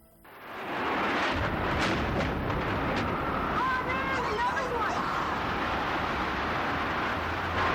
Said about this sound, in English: An explosion now.